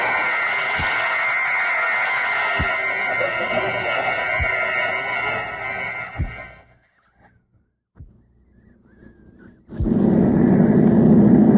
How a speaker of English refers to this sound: Beautiful takeoff. Yes, good pilot.